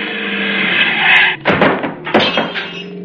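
A car engine roars steadily as the car speeds into a man walking in the street, then cuts into a heavy thudding impact that knocks him 100 feet and smashes the car's front, followed by a second crunching blow and rattling debris, loud.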